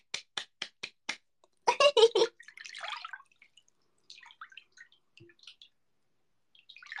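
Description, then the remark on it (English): Hand slapping a thigh: five crisp, evenly spaced smacks, then a louder rapid burst of about four more, followed by faint rustling and scattered soft sounds. “I'm gonna slap my thigh, and that'll be me patting you on the head.”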